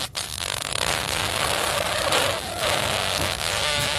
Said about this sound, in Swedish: För ett tag sedan så pratade vi om världens längsta fis.